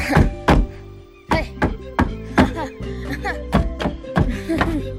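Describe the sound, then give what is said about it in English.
Mowgli steps into a pair of leather shoes and stomps on a floor in a string of loud, heavy thuds at an uneven, clumsy pace, about ten or eleven footfalls, with steady tonal music playing underneath. “He steps into them and stomps around.”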